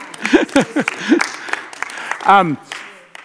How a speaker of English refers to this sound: Yeah, you can clap for them, that's all right.